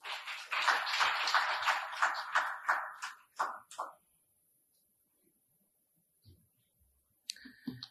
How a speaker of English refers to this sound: So can we give her a round of applause?